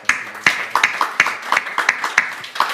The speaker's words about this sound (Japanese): まあ、感謝の拍手をいたしました。